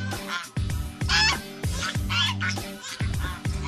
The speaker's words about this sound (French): Vous les entendez là ? Ouais, vous les avez reconnues. Alors ce sont des oies, mais pas n'importe quelle oie, c'est l'oie de Guinée. Et c'est vrai qu'on en voit de temps en temps dans nos jardins, et vous, apparemment, vous les aimez bien.